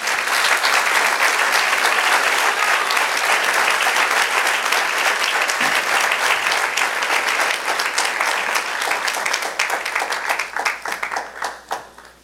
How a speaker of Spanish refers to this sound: Gloria a Dios. Demos un aplauso al Señor.